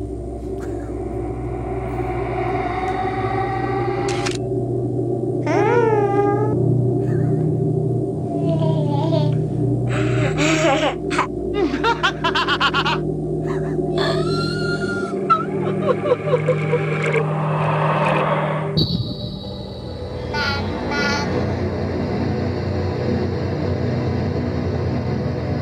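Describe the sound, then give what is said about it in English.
A Sony PlayStation console startup sound: a deep, rumbling synth drone under shimmering, chiming tones and sweeping bleeps, shifting into a bright sustained chord near the end. No speech. “Well, it was either going to be 64, PlayStation, or Dreamcast. And so I immediately thought it was the Sony PlayStation”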